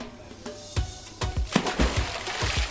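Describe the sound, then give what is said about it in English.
Water splashes and trickles in quick, irregular spatters, a steady gentle stream running down concrete pool steps, with no voices. “But when the barman noticed the gentle stream splish-splashing down the concrete stairs, he appeared strangely annoyed”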